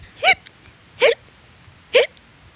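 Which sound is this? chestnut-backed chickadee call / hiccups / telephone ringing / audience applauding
hiccups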